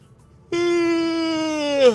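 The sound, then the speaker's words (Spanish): A single exaggerated fake yawn: a loud voiced tone starts abruptly, holds a steady pitch for over a second, then swells briefly and slides downward as it ends. “Ahora voy a bostezar.”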